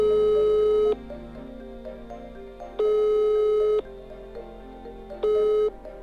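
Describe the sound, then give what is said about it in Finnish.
A telephone ringback tone on an outgoing call to a phone number in Sweden: a steady, buzzy electronic tone sounds three times in long, evenly spaced pulses, with quiet line hiss in the gaps and no talking. “No joo, mä oon siis soittanut tähän numeroon monta kertaa, mutta kerran kun mä soitin, joku vastasi.”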